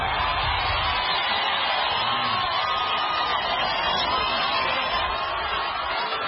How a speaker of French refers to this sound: À chaque gare, une foule enthousiaste attendait le président Kenyatta qui leur a promis la prospérité.